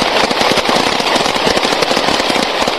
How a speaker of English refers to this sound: At just before 4 o'clock a.m. on Memorial Day, a car driven by a suspect comes to an abrupt stop on Collins Avenue. This video, posted on YouTube, apparently shows police surrounding the car and then firing.